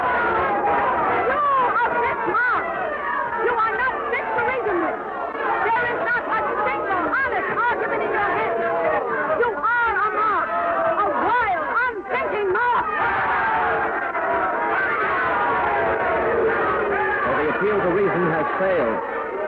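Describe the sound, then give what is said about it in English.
A crowd of delegates shouting and screaming at once, refusing to allow a vote on the resolutions, a loud, steady roar of overlapping voices with rising and falling cries that never lets up for the whole stretch. “The crowd, you can hear them. They're going wild. They're shouting. They're screaming.”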